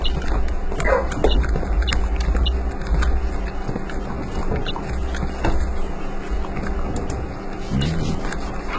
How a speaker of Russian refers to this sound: Ты что там лакаешь?